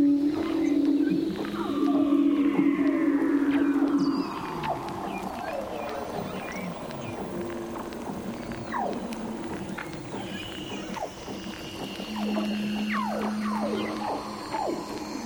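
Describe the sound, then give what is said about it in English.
Underwater calls of leopard seals, Weddell seals and orcas, recorded with hydrophones (underwater microphones), overlap continuously: long descending trills and whistles, steady low drones, and scattered sharp chirps and clicks echoing through the water. “Quinn used underwater mics called hydrophones to capture these hauntingly beautiful sounds of leopard seals, Weddell seals, and orcas.”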